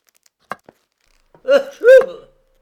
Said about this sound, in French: Il sort en éternuant.